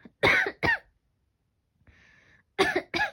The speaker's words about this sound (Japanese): ごめん、咳が。